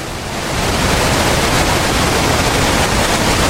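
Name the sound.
waterfall rushing water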